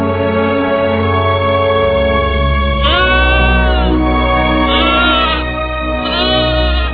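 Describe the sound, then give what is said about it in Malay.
A goat bleats in a few quavering, wavering calls, the first about midway and two shorter ones following, over a steady sustained tonal background, as it walks along with a man who is travelling. “Kasangali berjalan sendirian, jauh di belakang, hanya ditemani seekor kambing.”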